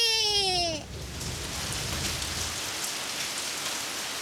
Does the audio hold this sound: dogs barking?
no